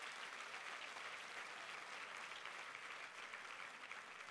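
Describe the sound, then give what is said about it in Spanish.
A crowd claps steadily and densely for several seconds, giving a strong round of applause to their father, a sustained wash of applause from many hands with no voices standing out. “Dile, dele fuerte ese aplauso a su padre.”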